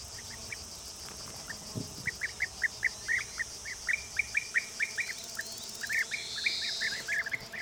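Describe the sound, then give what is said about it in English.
A steady stream of short, rolling chirps from a colony of bee-eaters calling together at their nests on a sandy slope, over a constant high insect drone, with no talking. “you can see a cheerful colony of bee-eaters.”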